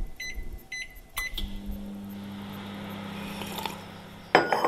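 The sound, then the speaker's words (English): A microwave oven, used to cook cakes, gives a couple of quick beeps, the door clunks, then it hums steadily for a few seconds before a louder electronic beeping burst at the end. “I cook them in a microwave.”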